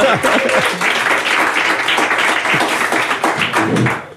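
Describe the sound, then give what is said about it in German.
A live audience applauds as a guest is welcomed: a dense, steady wash of many hands clapping at once, fairly loud and sustained for about four seconds before starting to fade, with a few voices faintly audible underneath. “Jetzt darf man auch gerne klatschen, weil das ist ja ein Live-Podcast, genau.”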